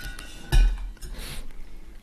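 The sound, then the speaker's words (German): A wine bottle is set back into a cooler with a solid clunk and brief clinking, followed by faint rattling and soft handling noises, with no one speaking. “Und, ja, und stell den mal zurück in den Kühler.”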